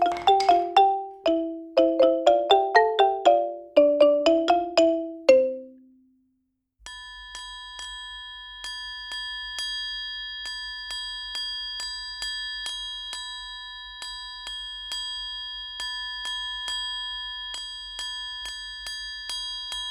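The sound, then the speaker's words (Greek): A church bell is struck at dawn, bright tones ringing out in a quick descending run, then fading into steady sustained ringing with a faint regular ticking underneath, clear with no voices. “Χτύπησε η καμπάνα, ρόδισε η αυγή.”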